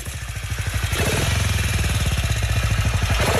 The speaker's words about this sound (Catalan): a veure si coneixes aquesta moto